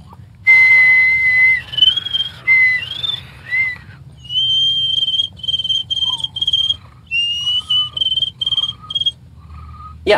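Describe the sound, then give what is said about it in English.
A person whistles a high, trilling imitation of a cricket, starting with sliding warbles and then settling into rapid pulsed chirps in short repeated bursts, fairly loud with no talking. “I learned how to do cricket.”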